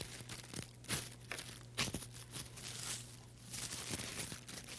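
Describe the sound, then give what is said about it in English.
Wrapping paper rustles and crinkles in short bursts as a piece is torn and then cut near the tear, with a few sharper snips and tears breaking through a steady low hum. No one speaks. “When you tear a piece of wrapping paper like that, all you have to do is to go like this.”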